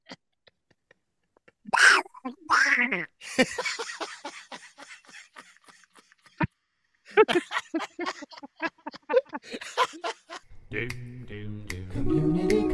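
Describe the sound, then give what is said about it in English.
A man does a raspy, garbled Donald Duck voice impression in quick nasal bursts of squawky pseudo-speech, pausing between phrases, before music comes in at the end. “I was going to try to do it as Donald Duck.”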